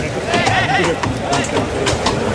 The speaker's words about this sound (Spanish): El sonido ahora es los cascos del caballo. Eso es. Los cascos del caballo en el extremo opuesto de la plaza.